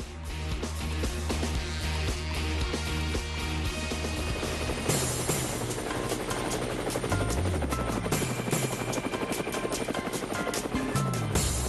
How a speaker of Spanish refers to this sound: Bueno, las hélices del helicóptero nos indican que vamos a viajar